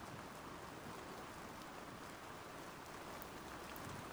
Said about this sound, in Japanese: 夕立かな。このままだと多分あと1時間くらいは帰れないから、このままだね。